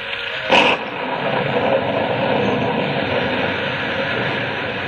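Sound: pouring rain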